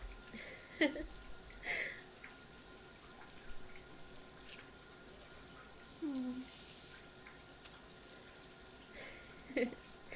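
water running

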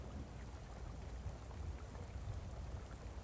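rain

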